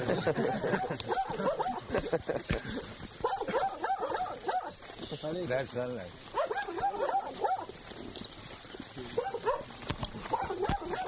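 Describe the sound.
A dog barks in short bursts and whimpers in high, strained whines, fairly loud, with a person speaking briefly over the commotion.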